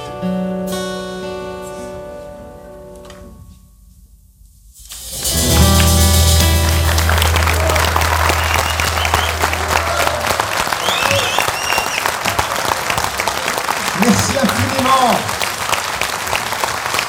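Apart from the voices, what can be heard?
audience applause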